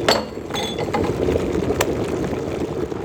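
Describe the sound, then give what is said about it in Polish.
A few bright clinks of two drinking glasses ring out near the start as they are set out for a test of pouring hot and cold water, followed by a softer tap, over a steady low background hum with no talking. “No dobra, to bierzemy dwie szklanki.”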